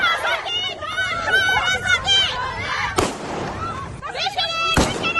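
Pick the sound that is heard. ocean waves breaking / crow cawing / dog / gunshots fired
gunshots fired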